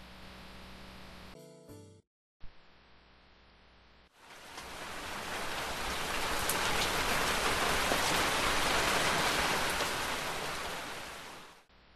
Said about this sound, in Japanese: 雨。お、急に雨が止んだな。それにしてもよく降ったもんだ。そこら中水たまりだらけじゃないか。